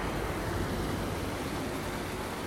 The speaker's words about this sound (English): Just going to cross a little bridge and a few ambient sounds of the river.